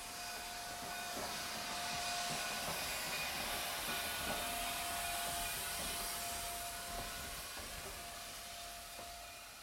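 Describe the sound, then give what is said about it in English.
An approaching train rumbles along steadily with a broad, hissing roar and a faint high whine running through it. Its loudness swells slightly toward the middle before easing off. No one speaks. “And the train always coming, and little Nell always screaming, and the train always coming, and some Mountie always saving her.”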